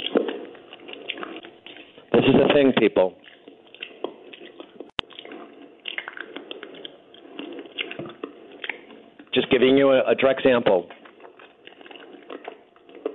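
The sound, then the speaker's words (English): Two loud bursts of wet, crunching chewing noise break in between stretches of a man talking, each lasting about a second and far louder than his voice. “If you want to lose weight, you need to chew louder.”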